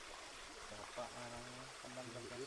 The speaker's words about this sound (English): It's a small waterfall here.